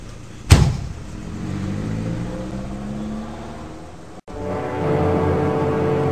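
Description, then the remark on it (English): A car door slams shut with a sharp thump, then an engine starts up and revs as the car pulls away, its tone rising steadily before a brief cut and continued driving. “get in the car quick.”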